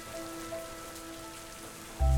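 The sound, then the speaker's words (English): Steady rain patters and hisses evenly with no one speaking, a few faint sustained tones underneath, until a sudden loud, deep rumble cuts in during the final moments. “Things just seem bad because it's dark and rainy”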